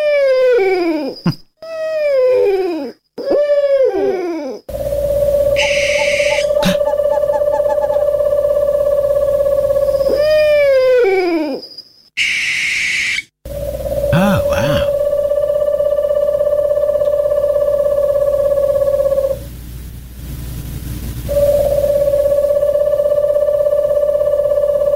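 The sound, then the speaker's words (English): Owl calls with no talking: a run of sharp, falling wails at first, then long, steady, low hooting tones that hold, break off briefly and resume. “But I thought, let's have some beautiful owl sounds and the incredible noises that come out of their beaks.”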